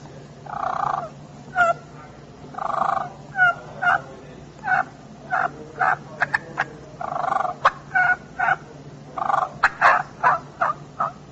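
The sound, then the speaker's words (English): A turkey call works through a clucking-and-purring sequence of rolling purrs broken by sharp, short clucks and a few soft yelps, repeated in uneven bursts, with no talking. “It's called clucking and purring. If you want to spice it up just a little bit, put some little soft yelps in there with it.”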